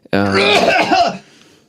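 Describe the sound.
One loud cough, throaty and voiced, drawn out for about a second before trailing off into quiet. It sounds like a deliberate, exaggerated cough made at the microphone.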